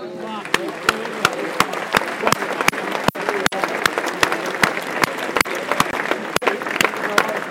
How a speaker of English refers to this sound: Minutes of applause now for, I believe, for a young Wimbledon fan who's passed away recently.